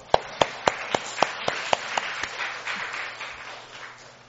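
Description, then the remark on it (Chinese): A church audience applauds members with high worship attendance: a few loud, sharp claps in a steady beat lead into a dense patter of many hands, which gradually fades over about four seconds. No one speaks. “啊，也是很多，我们要为这些人鼓掌。”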